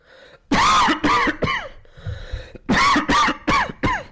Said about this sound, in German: Der Husten hört nicht auf. Er kriegt keine Luft.